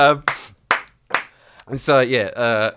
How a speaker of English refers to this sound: I want to clap that.